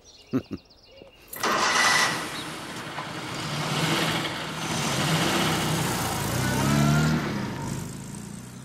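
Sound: car engine running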